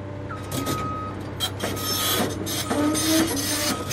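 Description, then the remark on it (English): A pile driver, a huge tractor-like machine, bores steel poles into the soft earth of a former tomato field in West Fresno County, California, for solar farming, with a deep, steady engine rumble, punctuated by harsh metallic scraping bursts and a few thin high tones, with no one talking. “This huge field in West Fresno County used to be full of tomatoes, but on this day, a monstrous tractor-like machine called a pile driver is planting a different kind of crop, boring thousands of steel poles straight into the soft earth”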